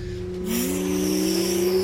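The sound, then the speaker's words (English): A truck engine idles steadily, then revs up with a rising pitch as it drives out of a garage, the motor drone staying loud throughout with no talking. “And driving my time truck!”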